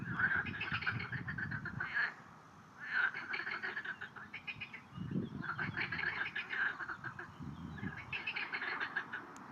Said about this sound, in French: La grenouille verte.